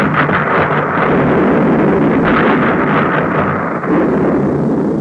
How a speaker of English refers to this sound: The boom of depth charges dropped by destroyers racing through dangerous waters, barking of guns, music of brave men guarding a continent.